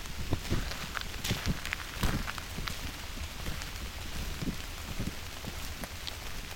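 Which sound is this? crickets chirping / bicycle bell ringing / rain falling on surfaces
rain falling on surfaces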